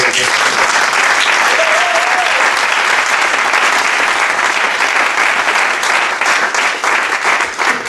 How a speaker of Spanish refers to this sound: Però sí, heu tingut un equip detrás que també, si voleu, us demano un fort aplaudiment.